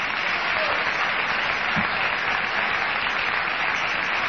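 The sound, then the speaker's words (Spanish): Steady applause from an audience for Eduardo Aliberti and the people filming, a dense wash of many hands clapping that fills the whole stretch without pause or letup. “Bueno, entonces sí, vamos a aplaudir a Eduardo Aliberti.”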